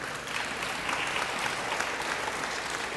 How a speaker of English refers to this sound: Hey, let's give another round of applause for these kids. They did great.